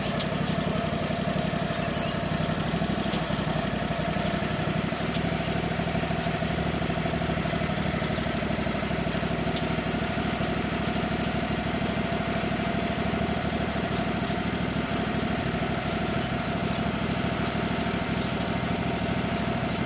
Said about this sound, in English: Better go get the tractor and not leave it running by itself.